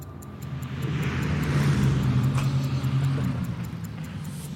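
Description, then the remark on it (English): A heavy engine roar swells up and holds steady, a deep droning rumble with a low humming tone, like an airplane touching down and rolling out, loud with no voices. “Okay, and the plane lands.”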